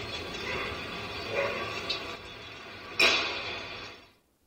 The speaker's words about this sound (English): You hear a bark, maybe two barks, and immediately a shot's fired.